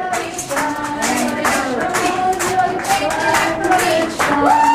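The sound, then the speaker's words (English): An outdoor crowd claps steadily and cheers as defendants are led off into police cars, with many voices shouting and chanting "Patriots for Peace" over the dense applause throughout. “You're hearing them being led off into the police cars now and the crowd reaction outside.”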